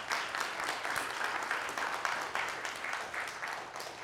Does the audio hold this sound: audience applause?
yes